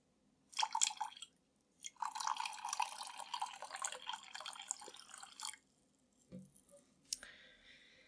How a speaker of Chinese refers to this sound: 你问我做什么？我把水倒在地上，你给老子舔干净了，听到没有？